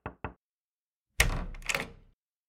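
Two quick knocks on a door, then a short pause before a louder, longer rattling thud lasting about a second, like the door being handled. Someone is knocking on a woman's door. No voices.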